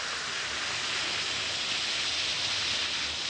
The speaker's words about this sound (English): Drop 1 or 2 Alka-Seltzer tablets into a glass of water like this. Listen to it fizz.